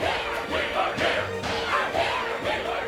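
A large crowd of Whos in Whoville shouts and yells together to make noise, a continuous, loud roar of overlapping voices, rising and falling in bursts of cheering with no clear words.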